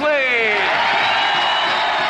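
A loud crowd erupts in cheering and whooping as a new RCA singer is introduced, with rising shouts and screams over a dense wash of applause, sustained for a couple of seconds.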